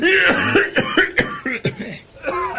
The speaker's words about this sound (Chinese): 一怒之下，忽然使得杨昌济的浓痰涌上来，接着是一阵猛烈的咳嗽。这一阵大咳，警察倒是被吓走了，却急得杨开慧一直捶背不止。